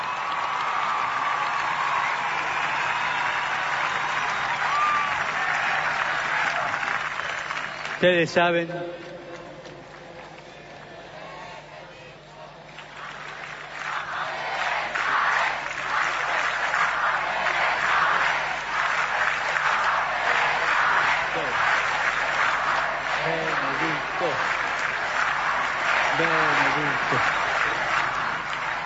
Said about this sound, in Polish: Dziękujemy mu z całego serca. I stąd wysyłamy mu serdeczne pozdrowienia i gorące oklaski.